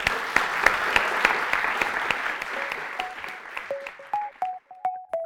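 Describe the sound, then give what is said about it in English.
A crowd applauds to thank the speakers at the end of a talk, with dense, steady clapping that gradually thins out into scattered individual claps, while a few brief tonal pings sound near the end as it fades. “Please join me in thanking our speakers.”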